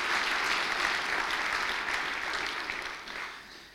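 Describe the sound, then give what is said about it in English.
A crowd at an evening lecture claps steadily in sustained applause for a cellist's performance, dense and fairly loud throughout, tapering slightly toward the end with no voices standing out. “But first of all, why don't we give Jonathan Bearcash a round of applause for entertaining us on the cello.”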